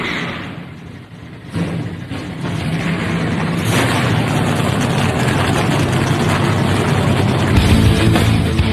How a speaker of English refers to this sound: Drivers, start your engines! The command has been given. Let's crank them up.